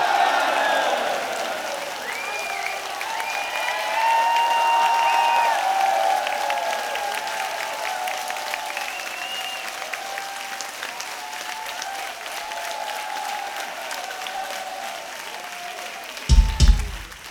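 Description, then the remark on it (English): Sustained audience applause for drummer André Hilgers, with cheers and whistles rising over the clapping, steady and fairly loud for most of the stretch, ending with a few sharp thumps. “So, a big applause for Mr. André Hilgers on the drums!”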